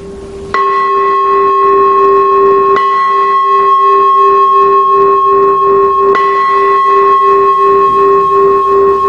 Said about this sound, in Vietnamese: Và nếu mà là chuông tụng kinh, vô chuông mở để vô thời kinh thì tiếng chuông sẽ là như thế này.